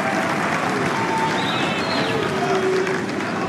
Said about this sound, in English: Here we go. Nice round of applause for the magician.